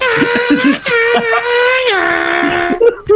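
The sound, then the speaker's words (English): A chicken lets out a loud, strained squawk that stretches on for about three seconds, harsh and nasal, sputtering at the start and sliding slightly in pitch before breaking off. “Sounds like the chicken's trying to start a car.”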